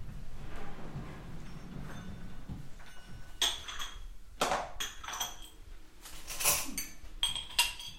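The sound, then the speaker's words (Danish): Glasses clink and clatter several times against a table or tray as someone gets things out and pours port wine, sharp bright chinks, with quieter rustling and handling noises in between and no talking. “finder tingene frem og skænker en portvin op”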